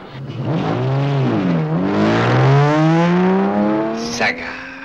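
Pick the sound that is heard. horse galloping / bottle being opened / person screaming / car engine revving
car engine revving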